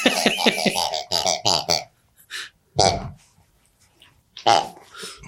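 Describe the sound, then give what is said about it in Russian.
Pigs grunting and squealing, starting with a quick run of loud, pulsing grunts, then a few scattered, rougher snorts and grunts separated by short pauses. “Подмикрофонные свиньи.”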